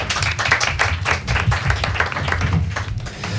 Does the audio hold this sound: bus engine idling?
no